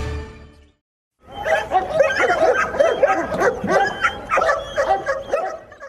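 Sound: police dog barking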